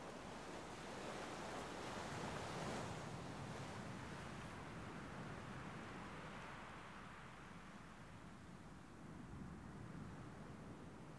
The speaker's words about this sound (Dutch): Zie je dat daar? Dat zandkasteel. Met grachtjes rondom, die steeds opnieuw worden gevuld en geleegd door de golven.